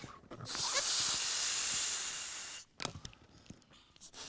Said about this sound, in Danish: Skal se, jeg skal lige puste ballonen helt op.